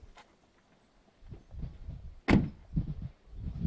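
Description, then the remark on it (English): A man gets into his car and the door shuts with a solid thump, preceded by faint shuffling and rustling as he climbs in, followed by low muffled knocks and movement inside the vehicle. “Got in his car, totally ignored us.”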